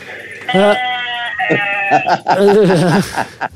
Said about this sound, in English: What the heck is that? Are you in the field? Who's that? Is it someone's out in the field somewhere? It sounds like a goat.